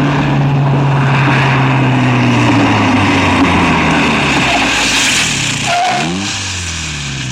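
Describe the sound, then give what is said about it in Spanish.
A car engine hums steadily, its low drone gradually sinking in pitch, then shifts and winds down to a quieter idle as the automobile comes to a halt in front of a cellar door at 10:20. “A las 10:20 se detenía frente a la puerta del sótano un automóvil.”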